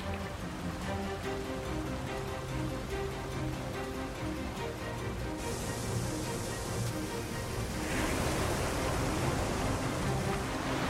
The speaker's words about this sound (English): That is a serious amount of ice coming around the corner.